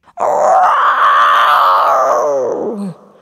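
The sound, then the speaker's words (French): A single loud, drawn-out dragon roar with a rough growling texture, heard alone. It holds steady for nearly three seconds before sinking into a lower, guttural tail. “C'est un dragon! J'ai jamais vu de dragon!”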